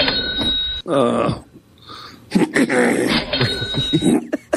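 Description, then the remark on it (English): A person practising a deliberate trademark cough: a series of forced, rasping coughs and throat-clearing bursts, loud, with brief pauses between them and a faint steady ringing tone in the background. “I'm working on this trademark cough.”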